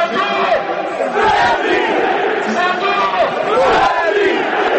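A large stadium crowd of football fans chants a battle cry in unison, led over a microphone by national team footballer Šimunić, loud and sustained for the whole stretch, with massed voices rising and falling together over a constant roar.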